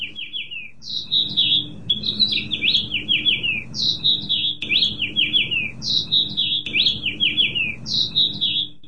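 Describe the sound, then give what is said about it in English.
House finches nesting at the Ames Pantorium, 410 Douglas in downtown Ames, chirp and warble in quick, bright bursts that repeat every second or so, clear, over a low steady background hum. “They are nesting at 410 Douglas in downtown Ames, and this is Pat Schlarbaum with KHOI Community Radio 89.1, and this is our phenology for today, the house finches of the Ames Pantorium.”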